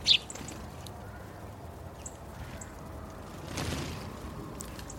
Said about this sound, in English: The wee birds, the sparrows, chaffinches, siskins, blue tits, coal tits, great tits, that kind of thing, tend to colonise the lower stage. They hop about the lawn and zip up and down to the feeders.